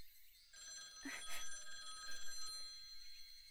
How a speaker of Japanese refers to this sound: あ、電話だ。